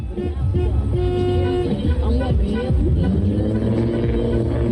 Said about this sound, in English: For the climactic scene of the short film Unseen Territories, cars drive down Main Street in the Las Vegas Arts District brandishing flags. Some of the flags are attached to poles, some are draped over doors,